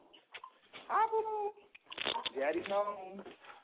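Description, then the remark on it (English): A cat meows twice in long, wavering cries, the second more drawn-out and insistent, fairly clear with a muffled, narrow quality. “Kitty is telling me, honey. Late mistake.”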